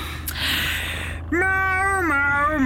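A single long, drawn-out meow rises in pitch, holds steady, then drops away at the end. It comes after a second of soft background hiss, fairly loud, with no talking.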